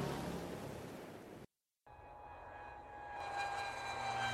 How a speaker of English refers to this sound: This is a plane. It takes people to many different places.